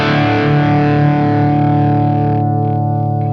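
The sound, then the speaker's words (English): A single distorted electric guitar chord rings out loud and thick through a 1959 Super Lead 68 Plexi tube amp, sustaining with a dense, gritty buzz while its brightest overtones fade near the end. “I'm sitting there, and I have this Holy Grail, a 1959 Super Lead 68 Plexi. And I plug it in, and I'm telling you, man, I literally, I'll make sure this stuff's off.”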